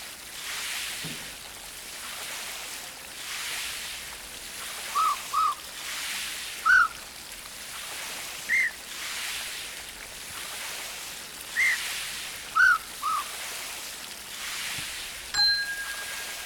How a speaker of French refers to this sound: Le sifflet d'une policière. Et la sonnette du Vélib. On a trafiqué le son de la sonnette et du sifflet de la policière avec un ordinateur. On les a mixés aux autres sons.